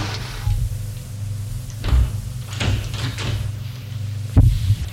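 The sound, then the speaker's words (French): A building door's latch clicks after an intercom call, followed by the door opening with a few sharp knocks and thuds over a steady low hum; no one speaks. “Le déclic de la porte. La porte s'ouvre.”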